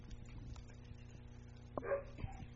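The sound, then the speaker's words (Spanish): A dog gives one short bark with a brief whine-like tail, rising above a steady low electrical hum and quiet background noise. “Ya llegaron los perros, es momento del relato.”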